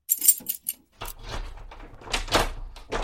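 An enormous bunch of keys, found in a hangar, jangles in short metallic bursts, then rattles and scrapes more continuously over a low rumble as the keys are handled and tried in the doors of Guy Renouf's house.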